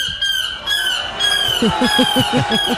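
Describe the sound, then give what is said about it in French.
A person imitates a seagull's cry as the winning cry of a world championship of seagull-cry imitation, starting with a drawn-out wail and then breaking into a quick run of about seven sharp, rhythmic squawks. It is loud and heard alone. “c'était le championnat du monde du cri de la mouette, l'imitation”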